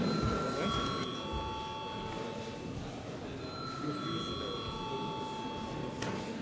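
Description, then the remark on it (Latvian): A bell in the Latvian parliament chamber rings steadily for several seconds to call a vote, its sustained high metallic tones briefly wavering, over a constant murmur of voices and room noise. “Paldies, lūdzu zvanu.”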